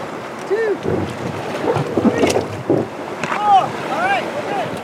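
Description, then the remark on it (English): Outdoor water sounds as a group of five people shove a red raft into the cold Lehigh River at a state park: sloshing and splashing in uneven bursts over steady wind rumble, with faint voices calling out. “… warns them they might get wet as they push the raft into the cold water.”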